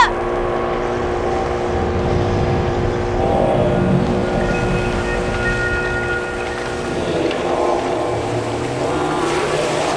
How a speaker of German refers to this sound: Der Motor des Bootes heulte auf und sie rasten davon.